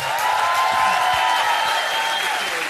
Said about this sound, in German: Applaus für den Mann,